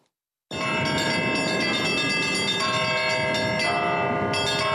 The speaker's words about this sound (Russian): Вот и жители Малинового края постепенно, но привыкают к ежедневному перезвону колоколов своего нового кафедрального собора.